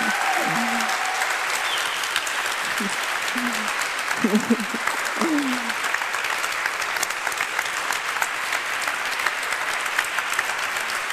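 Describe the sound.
An audience applauds steadily, dense clapping filling the whole stretch at an even loudness, with a few brief voices and murmurs rising under it in the first half.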